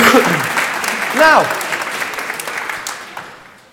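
An audience claps in a dense, steady burst of applause that gradually fades out, with a brief rising-and-falling vocal whoop early on.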